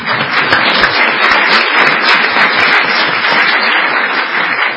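A steady round of applause from a crowd, dense overlapping clapping sustained at an even, fairly loud level for about five seconds with no voices standing out.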